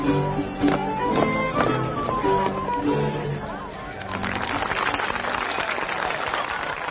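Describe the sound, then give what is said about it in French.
Voices ring out at first, then a dense, steady burst of many hands clapping takes over and carries on loudly to the end, applauding Charles V's victory at Pavia. “Bon, alors on peut applaudir du point de vue de Charles Quint à sa victoire de Pavie.”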